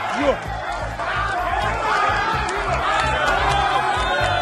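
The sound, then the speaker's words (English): A crowd of councillors cheering and shouting over one another in the council chambers during a council sitting as private security are called in, a loud, steady din of overlapping voices with a few higher calls rising out of the noise throughout. “Some were cheering and other councillors were staring in shock when private security were called in.”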